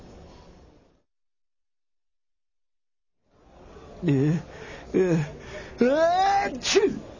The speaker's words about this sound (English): Bless you.